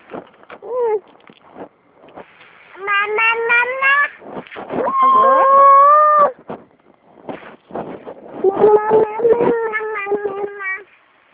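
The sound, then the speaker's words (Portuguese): A baby screams in several loud, high-pitched bursts, each a strained wavering wail lasting a second or two, separated by short choppy gasps and whimpers. “Tem um bebê gritando aqui, né?”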